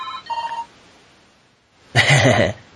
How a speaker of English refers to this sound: Is that your phone? Yeah. That's just another sound effect.